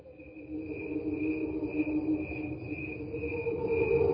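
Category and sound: insect, crickets chirping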